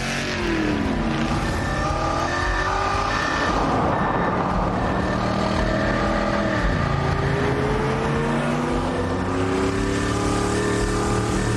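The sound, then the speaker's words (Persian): A car engine drives and revs loudly, its pitch rising and falling as it shifts speed, while a steady, evenly spaced electronic beeping repeats throughout. No one speaks. “نمیتونی ماشینش رو متوقف کنی؟ ماشینش الکترونیکی نیست، مال تو هم نیست.”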